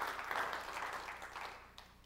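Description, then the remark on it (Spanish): A crowd claps together in sustained applause as praise to God, a dense wash of many hands at moderate volume that gradually thins out over a couple of seconds, with no voices standing out. “¿Alguien se atreve a levantarle una alabanza a Dios, un fuerte aplauso y decirle, Señor, gracias por todo lo que tengo, porque eres bueno y ha puesto cosas en mi vida?”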